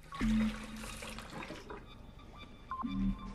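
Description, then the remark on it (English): A tap at a sink runs water into a plastic beaker in a short, splashy gush lasting over a second, followed by quieter handling clunks and a brief low hum near the end. “Going to the sink, he takes a plastic beaker and turns on the tap.”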